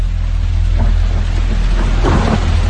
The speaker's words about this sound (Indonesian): Air hujan mulai jatuh membasahi tempat itu.